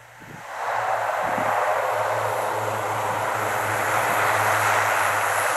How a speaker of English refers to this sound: The Twin Otter is a great aircraft for operating both in the Arctic and off the sea ice. It performs quite well in the cold. They start well. And the aircraft itself is a very rugged aircraft, so it puts up with the rough conditions on the sea ice